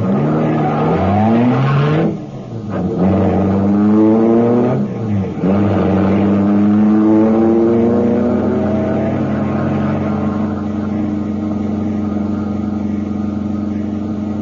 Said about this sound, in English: The keys were in the ignition. I jumped in. The motor turned over, and I got out of there as fast as the car could make it.